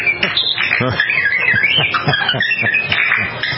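Audio from a video of a family's pet bird rapidly mimicking R2-D2, the Star Wars droid: a loud stream of warbling electronic-sounding chirps, beeps, whistles and sweeping tones with no talking.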